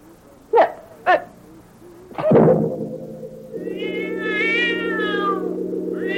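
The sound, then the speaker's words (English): A cat lets out a long, wavering meow that rises and falls over a steady low drone, after two sharp knocks and a heavier thud. No one speaks. “The cat saw everything with its yellow eyes.”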